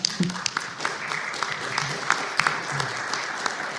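A room full of people clapping to applaud two couples who donated money toward operating costs: a dense, steady patter of many hands with sharper individual claps popping out, moderately loud throughout, no speech.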